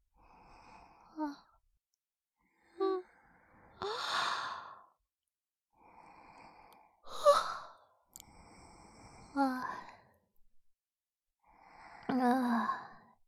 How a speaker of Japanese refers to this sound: またあくびしちゃった。